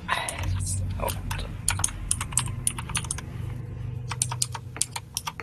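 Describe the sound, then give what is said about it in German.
Rapid, clattery keystrokes on a loud computer keyboard, irregular bursts of sharp clicks, with a low background hum underneath. “Sorry, dass meine Tastatur so laut ist.”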